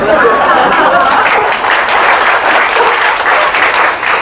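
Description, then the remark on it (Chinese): An audience claps steadily for a few seconds, a dense, continuous wash of many hands at a fairly loud, even level, with no single voice standing out. “人家感动是掉两滴泪，你们感动是拍手也是不一样的啦，哈哈。”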